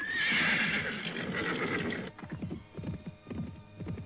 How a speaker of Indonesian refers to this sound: Tetapi ketika ia tiba di tempat yang dicurigainya, lima tombak dari tempatnya terdengar ringkikan kuda yang kemudian disusul oleh derap langkahnya.